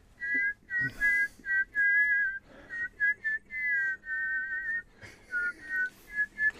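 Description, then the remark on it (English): A clear double whistle: a melody in two simultaneous tones moving together in harmony, phrased in held notes with brief breaks between them, with no talking. “Because I can get to do my double whistle, …”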